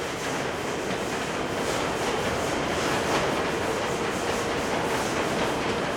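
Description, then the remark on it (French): Waste sorting conveyor belts, carrying waste unloaded by trucks, run with a steady, loud mechanical roar, a faint regular clatter repeating through it. No voices are heard over the continuous machinery. “Ils vont arriver sur des tapis roulants, comme ce que vous avez là, qu'on appelle nous convoyeurs.”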